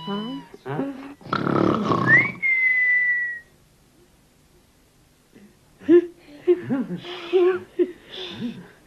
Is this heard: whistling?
yes